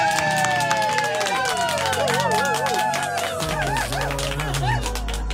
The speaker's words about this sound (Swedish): En liten applåd för Marcolio!